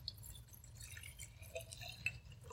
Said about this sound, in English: I just want you to pour it into this jar just like that. Okay? So take this jar, pour it into that jar right there, and just watch what happens.